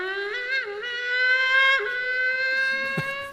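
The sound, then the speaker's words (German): A trumpet imitates a sports car with one loud, sustained brassy tone that wobbles and dips slightly in pitch, like an engine revving, for about three seconds with no talking. “Ein Sportwagen.”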